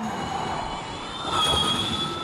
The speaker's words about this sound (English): And when you can hear, obviously there's the whine of the motors themselves, not the roar like a traditional motor, but that whine.